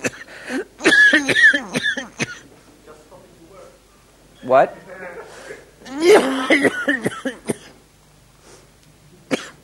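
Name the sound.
repeated coughing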